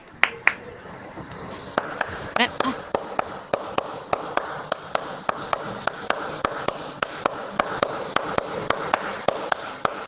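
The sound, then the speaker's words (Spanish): A single person claps steadily, around two dozen sharp, even claps at a brisk pace over a soft hiss, after a few scattered knocks at the start. “Me gustó mucho tu aplauso.”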